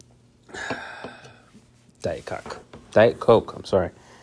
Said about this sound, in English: I got to take a sip of my DC.